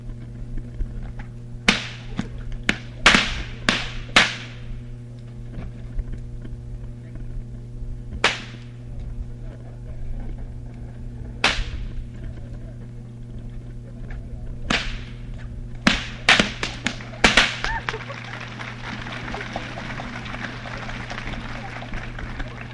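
Sharp whip cracks snap out in quick clusters and single pops, loud, spaced irregularly over a steady low hum, ending with a burst of rapid cracks followed by a rush of noise, as two performers crack whips to cut straws from each other's hands.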